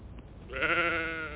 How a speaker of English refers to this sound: Own up. Close to the gate. Come on, sheep.